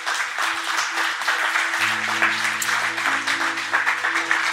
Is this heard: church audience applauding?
yes